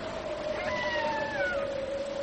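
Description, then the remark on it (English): A long, steady howl like a wolf's holds one mid-pitched note throughout, while higher wavering tones slide gradually downward over it. No one speaks. “But you know, I'd say that it sounds like a wolf.”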